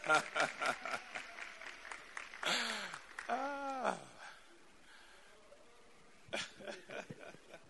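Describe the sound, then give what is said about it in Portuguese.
An audience applauds a fellow member, a brother, clapping in quick rhythmic bursts broken by a couple of rising, wavering vocal calls. A quiet pause follows before a short final spatter of applause. “Vamos dar um aplauso para o nosso irmão.”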